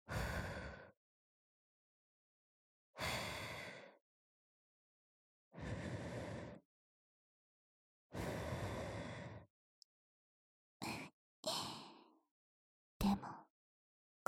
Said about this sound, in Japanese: 耳に吐息吹きかけられただけで、おちんぽ薄いてるの丸わかりだよ。